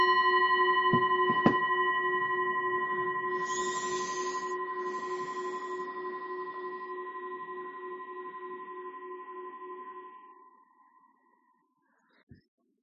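A single bell is struck once, giving a sharp onset followed by a clear, sustained ringing tone with steady overtones that slowly fades out over about ten seconds, leaving near silence.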